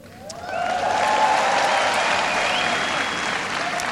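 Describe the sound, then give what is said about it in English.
A large Kenyan crowd in Kenya bursts into loud, sustained applause with cheering and a few whistles rising above the dense clapping, which builds quickly and holds steady without any talking, as the US president calls himself a Kenyan-American. “Here he was talking with the Kenyan people, describing himself not just as an African-American, but to the crowd's delight there, as a Kenyan-American.”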